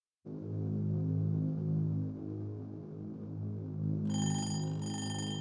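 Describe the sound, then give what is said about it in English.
A steady low electrical hum drones for several seconds, then a shrill, bright alarm clock ringing cuts in near the end, loud and continuous with a brief stutter, layered over the hum. “Clay set his alarm clock for 5 a.m.”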